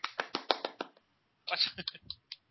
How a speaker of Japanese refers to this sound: 拍手なんですか？